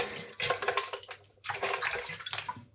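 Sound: tap water running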